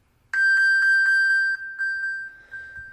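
An iPhone's ping alert, triggered from a watch to locate the phone: a bright, high electronic chime pulsing rapidly about eight times in a steady rhythm, clear and fairly loud, tapering slightly, with no voices.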